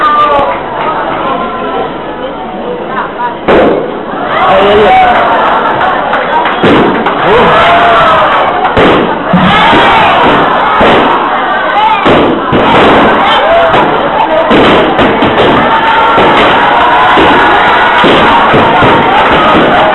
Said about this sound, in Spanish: Y con ese aplauso vamos a recibir a Carlos Valcarce, que también quiere dirigirse a los que están aquí en vivo.